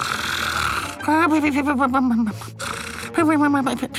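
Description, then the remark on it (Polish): A voice imitates loud, ragged snoring in two long rasping bursts separated by a short pause, each with a wavering, sputtering pitch and a rough, rattling low rumble like a combustion engine giving its last gasp. “Słyszał pan kiedyś silnik spalinowy wydający ostatnie tchnienie? No to właśnie takie chrapanie, coś jak...”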